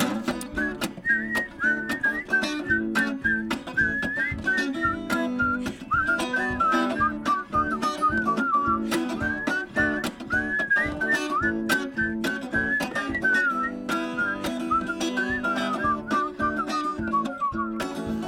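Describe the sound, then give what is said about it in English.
Several people whistle a bright, wandering melody together, loud and steady throughout, over a busy rhythmic instrumental backing with sharp percussive clicks. “Okay, everybody whistle.”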